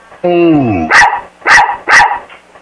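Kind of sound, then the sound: animal, dog barking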